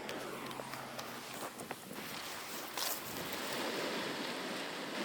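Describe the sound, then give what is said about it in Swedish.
Irregular footsteps crunch on outdoor ground while walking down toward the sea at Svarte, near Ystad, over a steady broad hiss of wind and surf. No one speaks. “Så jag tänker att vi kanske ska gå ner mot havet som bara är en liten bit härifrån, så slipper vi lite bilar.”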